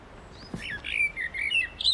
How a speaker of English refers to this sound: Blackbird. Didn't even need 2 seconds of it. There's more sounds to that. Get away from me! That's all blackbirds. Mm. Wide range there of blackbirds.